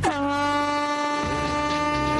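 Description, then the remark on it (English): A single loud, sustained air horn blast signals the start of a scooter race down a hill, holding one steady, buzzy tone for about two seconds, alone with no voices. “OK, muck spreaders, on the sound of my horn, pull on your wellies, hop on your scooter, and prepare to face the Hill of Doom!”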